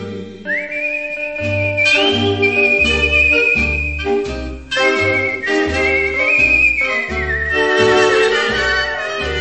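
A clear, sustained whistled melody with gliding, wavering notes rides over a full band backing with a steady bass beat, loud and continuous throughout.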